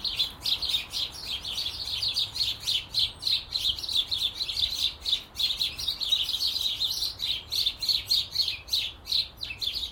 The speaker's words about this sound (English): That's the house sparrows. That's what they do. They're very gregarious wee birds. And fly about in little flocks, and every now and again they dive into a bush or a hedge or a tree or something, and you get that sometimes for a long, long time.